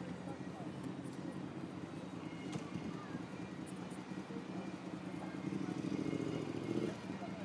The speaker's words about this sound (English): I think he's a bagpipist. Bagpipist. I think he might be wandering though. Because he sounds getting further away. Unless that's just because of the wind. Maybe.